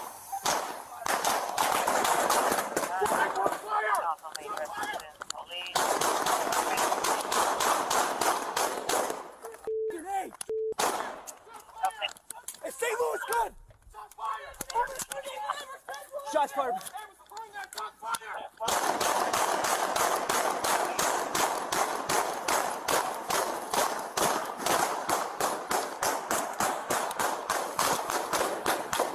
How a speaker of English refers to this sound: he decided to open fire on the police with his illegal handgun.